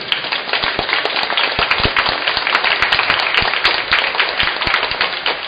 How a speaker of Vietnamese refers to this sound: Và chúng ta cảm ơn ca đoàn bằng một tràng vỗ tay thật lớn.